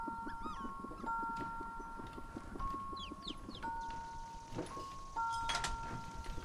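A dog whimpers in thin, high whines while shuffling and tapping around, with steady footfall-like knocks and rustling throughout, and no one talking.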